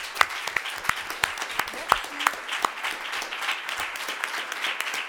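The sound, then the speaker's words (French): An audience applauds the 2016 winner of a contest steadily, a dense wash of many hands clapping with a few sharper, louder claps standing out irregularly throughout. “qui est la lauréate de 2016 de ce concours et qu'on peut applaudir.”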